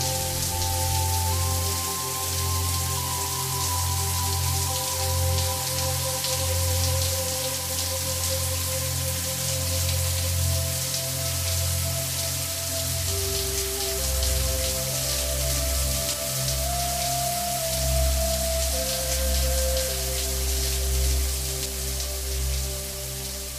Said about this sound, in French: Nous allons écouter ensemble le bruit de la douche qui coule avec un fond de musique de méditation.